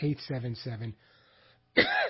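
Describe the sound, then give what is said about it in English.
A man clears his throat during a radio pet and animal call-in show, in three quick, gravelly voiced bursts, then a brief pause before a louder, harsher rasp at the end. “877, got a frog in my throat.”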